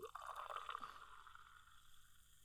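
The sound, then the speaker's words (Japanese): A drink is poured into a glass in return, a bright splashing stream that fills for a couple of seconds then settles into a softer trickle, with no voices. “サンキュ。トトン。じゃ、お返し。”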